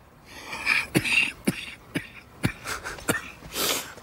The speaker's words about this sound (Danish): Ja, så kom lige med et hosteanfald igen.